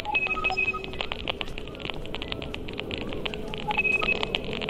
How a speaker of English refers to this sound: Think of it like a Geiger counter, but measuring Wi-Fi instead of radiation. Faster clicks mean higher Wi-Fi signal strength. And these robotic beeps are the router ID numbers.